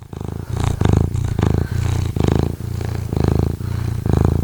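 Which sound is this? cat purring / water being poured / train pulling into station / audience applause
cat purring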